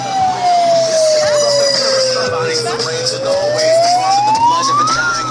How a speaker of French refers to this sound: 8 mars, place Royale à Nantes. Il est 16h, il fait beau, la place est remplie. On croise des pancartes, des paillettes, des sourires. L'alarme d'un mégaphone retentit.